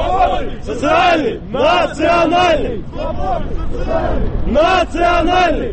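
A crowd of young men at a street march, carrying a placard reading 'Nationalism, socialism is order, to each his own', chants a slogan in unison, loud, the shouted phrases coming in strong rhythmic bursts with brief pauses between them.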